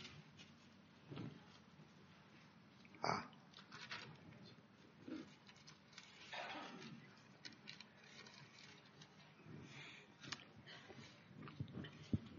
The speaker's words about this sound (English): I need my old dog-eared Bible. This one is harder to turn the pages.